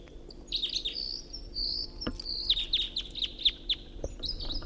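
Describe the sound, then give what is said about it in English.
Two wild birds sing in overlapping high, bright phrases: rapid chirps and trilled notes repeating in quick bursts, with a couple of sharp clicks and a low background hum; one bird is right above the speaker, the other in a tree above a net. “Got two singing birds here. I got one right above me and another in the tree above the net.”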